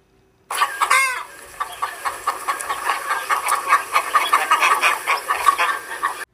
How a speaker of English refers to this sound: The giant chicken squawked.